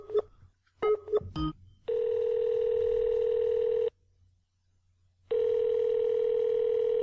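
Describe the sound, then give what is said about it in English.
A few quick keypad beeps as someone dials a new phone, then a telephone ringing tone: a steady electronic buzz lasting about two seconds, a pause, then the same tone again. Fairly loud and alone, with no voices. “Robbie, can you call my phone?”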